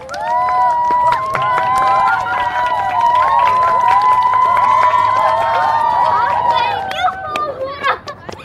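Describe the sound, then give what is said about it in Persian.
A crowd cheers loudly for a man, with many overlapping voices shouting and whooping in sustained tones, while scattered claps come through; the noise stays steady for several seconds, then tapers off toward the end. “بچه‌ها دست بر آقا.”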